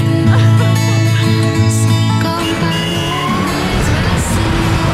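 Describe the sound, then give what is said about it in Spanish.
A recorded road safety campaign song plays loudly and continuously, with sustained, droning tones and shifting notes filling the whole stretch, and no voices audible over it. “Escuchemos un poco para recordarla.”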